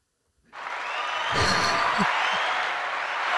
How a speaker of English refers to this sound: I just want to give her a round of applause there. Oh, it's not working. That's funny. Okay. Yes, it is.